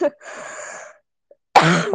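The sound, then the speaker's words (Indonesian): A person with a cough that won't go away coughs twice: a raspy, breathy cough, then a short pause and a louder, harsher cough that rings out at the end. “Gue batuk gak sembuh-sembuh cuy.”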